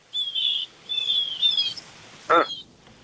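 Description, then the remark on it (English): Birds chirp outdoors behind a car in a few bright, high-pitched bursts, clear, with one sharper, louder call near the end and no talking. “Are those birds chirping in the background behind your car, Tausch?”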